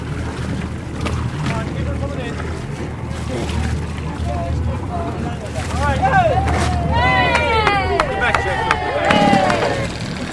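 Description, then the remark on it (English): A ferry's engine rumbles low while wind buffets the microphone; partway through, rising and falling calls ring out over the steady churn as the ferry struggles to dock in the rising wind among many boats and people. “The wind is lifting and he's having trouble docking.”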